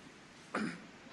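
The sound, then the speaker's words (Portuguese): A single short cough, brief and moderately loud, with no talking, from a person who has been speaking continuously while wearing a face mask during a parliamentary committee meeting. “Eu peço desculpa tirar a máscara, mas está-me a dar tosse estar a falar sistematicamente com a máscara.”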